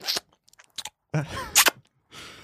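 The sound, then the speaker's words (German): Wet mouth smacking of someone chewing gum with their mouth open: a run of quick clicks and louder sticky smacks in irregular bursts with short pauses between. “ich muss dir sagen, du musst dein Kaugummi mal ausspucken, bevor wir jetzt hier aufnehmen. Am Rumschmatzern.”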